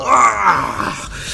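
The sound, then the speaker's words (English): A voice imitates a cat's drawn-out howl of pain after the cat is badly sliced in a tabletop game: a loud groaning wail that starts strong and slides downward in pitch over about a second, with no other talk. “slice him badly, and you hear him howl out.”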